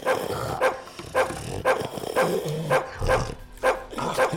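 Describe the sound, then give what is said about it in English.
A hound dog named Bucci barks and whimpers, letting out about eight sharp, whiny yelps at a steady, quick pace of roughly two per second, with no talking. “This dog is real slobbery.”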